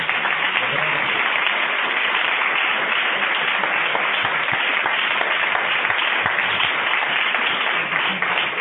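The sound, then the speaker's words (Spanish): Sustained applause from an audience, a dense, steady wash of many hands clapping at an even loudness for the whole stretch, with no single claps standing out, given as a birthday applause for a parade's 20th anniversary. “Un buen aplauso de cumpleaños por sus 20 años, por este desfile joya que nos deleitó en febrero a todos,”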